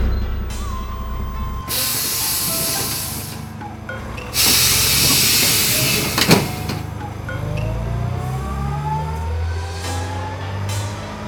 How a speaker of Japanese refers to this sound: あ、来たぞ来たぞ。バスがあれに乗ってるんだよな。